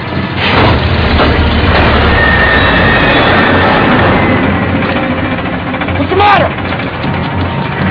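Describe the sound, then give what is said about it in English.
A drilling rig runs with a loud, steady mechanical roar and low engine drone that never lets up as something pulls the drill down, while a brief voice cuts through the noise near the end. “Something's pulling the drill down!”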